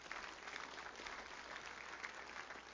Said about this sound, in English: Everybody say amen. Give the Lord another good clap offering, would you?